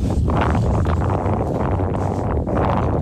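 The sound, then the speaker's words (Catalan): Strong wind roars steadily against the microphone at Ilulissat, a village in Greenland, a dense, rumbling blast with gusty surges throughout and no voices. “Ara al Catalunya Nit ens n'anem molt lluny, perquè així com sentiu, així és com bufa el vent, aquesta hora a Ilulissat.”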